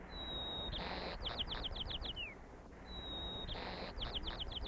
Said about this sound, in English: These were the songs of two birds recorded only miles apart, but they live in different dialects.